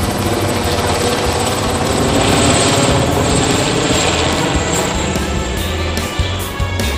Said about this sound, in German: Jetzt schwebte der Helikopter nur noch wenige Meter über ihm. Ein Seil wurde heruntergelassen, der Gangster klammerte sich an eine Halteschlaufe und wurde nach oben gerissen. Sekunden später verschwand der Hubschrauber zusammen mit dem Räuber.